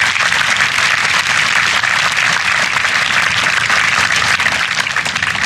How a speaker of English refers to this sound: Let's give another great round of applause to Governor Mike Foster.